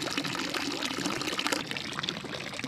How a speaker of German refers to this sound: Im sonnenüberfluteten Schlosshof plätschert der Brunnen fröhlich vor sich hin.